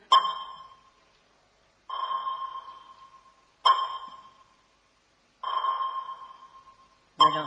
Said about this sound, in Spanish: Eso lo he oído yo muchas veces en películas donde hay submarinos. Exactamente, se trata de un sonar. Es una especie de radar, pero que funciona con sonido. Es uno de los sistemas de localización básico de los submarinos.